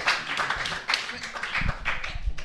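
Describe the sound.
A crowd applauds steadily as a band is invited to join the stage, dense rapid clapping at moderate loudness, with some voices mixed in beneath the claps.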